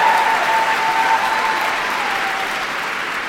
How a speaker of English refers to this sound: It's been an extraordinary year. Yeah, hoot. Cheer. It's a good thing.